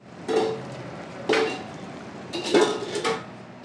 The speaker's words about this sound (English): Pots and pans clank as volunteers dish up homemade entrees and sides at the Chamai potluck.